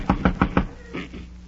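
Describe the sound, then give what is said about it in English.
Four quick, evenly spaced, solid knocks on the door of a house, followed by a short stretch of faint, muffled sound. “I'll knock on the door.”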